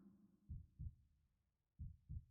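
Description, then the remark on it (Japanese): A muffled heartbeat thumps in two lub-dub pairs, low and deep, with a steady rhythm and a soft hum between the beats. “ドクンドクンドクン、波打って脈打っている。そうやって受け継がれていく。あんたの命の鼓動でいいのかな。”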